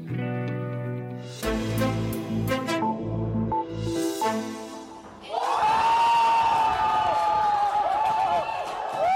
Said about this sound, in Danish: Det, vi hørte her, det var jubel hos det hollandske midterparti D66 onsdag aften.